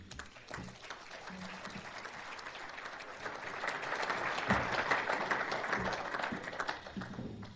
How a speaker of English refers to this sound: I think you're applauding my 18 grandchildren.